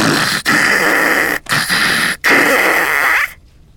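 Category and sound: human body sound, loud snoring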